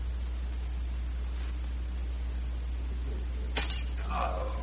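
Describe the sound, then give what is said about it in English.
A wine glass drops and shatters in one sharp crash, followed by a brief scatter of tinkling shards, against a steady low hum and faint hiss. “That's the second wine glass Valcour has dropped in an hour.”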